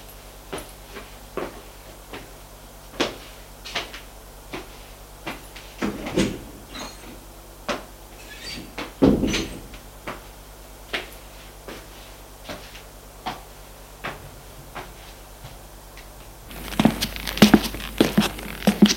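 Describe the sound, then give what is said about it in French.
A series of sharp knocks and clatters as a man puts his papers away in a drawer, with a heavier thud of the drawer shutting midway, followed by scattered footsteps and a burst of rustling noise as he leaves the room. “Dans le tiroir et sort de la pièce.”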